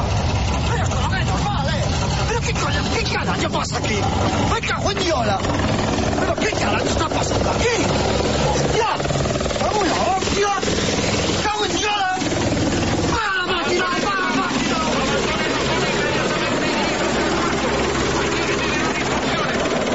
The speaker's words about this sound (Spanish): en el que se decía que en Galicia se veía un extraño ovni perseguido por aviones y por helicópteros. Esta es la secuencia sonora para que la escuchéis.